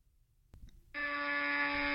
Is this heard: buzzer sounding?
yes